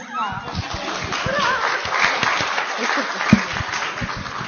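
A crowd claps steadily in a dense, crackling burst of applause that holds at a fairly even loudness for several seconds, with one sharper clap standing out near the end. The audience is applauding a girl for her courage and for how nicely she recited a Bible verse (1 John 1:9) in front of everyone.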